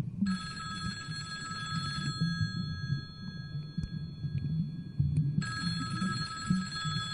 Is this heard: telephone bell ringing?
yes